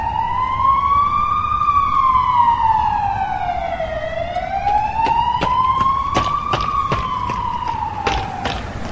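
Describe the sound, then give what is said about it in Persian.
The wailing sirens of two cream-coloured ambulances arriving to park by the road and in the yard of a village health centre rise and fall in long, slow sweeps, loud and steady throughout, with a rumble of traffic and sharp clicks beneath; no one speaks. “آمبولانس ها آژیر می کشیدند و می آمدند.”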